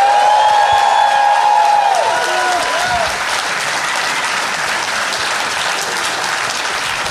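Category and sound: crowd, audience applause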